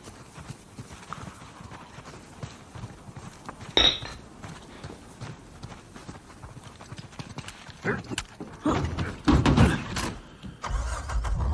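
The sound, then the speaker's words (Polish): A car engine starts with a sharp click and rising rumble, then the vehicle drives off, its engine noise swelling loudly near the end over low, steady background rumble. “A może tam pojadę samochodem? Co będziemy chodzić, nie? Nie po to mamy samochód, żeby chodzić.”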